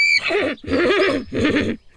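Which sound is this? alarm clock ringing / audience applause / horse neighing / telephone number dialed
horse neighing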